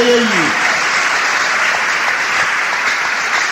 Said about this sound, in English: Hallelujah. Each time you clap, you're telling God, I will cooperate with you. How many of you are ready to cooperate with God?